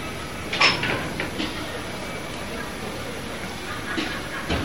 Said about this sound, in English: Now, open the door. Yes.